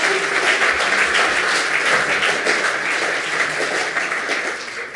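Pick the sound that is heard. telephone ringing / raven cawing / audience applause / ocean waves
audience applause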